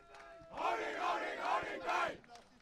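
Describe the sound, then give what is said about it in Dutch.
A large group of IST members cheers and chants loudly in rhythmic bursts while arriving for a closing ceremony amid flags and an arch, three swelling waves of shouting voices rising and falling with enthusiastic energy. “En zoals je misschien kunt horen heeft iedereen van de IST's er ook ontzettend veel zin in.”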